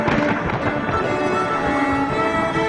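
Loud, crackling thunder rolls on without pause, a dense rumbling roar that holds steady throughout with no voices present.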